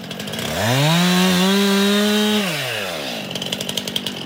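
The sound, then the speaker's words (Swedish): A chainsaw revs up and cuts through a wind-thrown pine lying in the snow, sawing at the root so the trunk comes free of the upturned root plate during forest clearing in Rickleå outside Robertsfors, Sweden. Its engine drops to a steady strained drone while cutting, then rises and eases off to a rough idle with sputtering pops. “Han sågar av den längst ner vid roten så att stammen släpper från rotvältan.”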